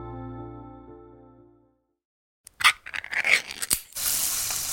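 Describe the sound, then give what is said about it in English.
A sustained, humming musical tone fades out into a short silence, then crackling pops burst in and settle into a steady, loud sizzle of Spam brand pork frying in a pan. “Oh, hear that? That's the Spam brand singing you a love song. Spam, sizzle, pork, and mmm.”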